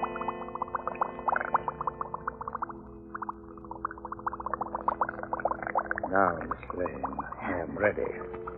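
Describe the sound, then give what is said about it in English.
Steady, rapid bubbling and gurgling from a blood transfusion machine, with a low mechanical hum underneath, rising into a louder, warbling churn toward the end. “Do not let the bubbling sound unnerve you. Just my special blood transfusion machine.”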